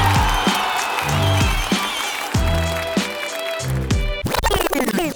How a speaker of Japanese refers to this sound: レイムに大きな拍手を。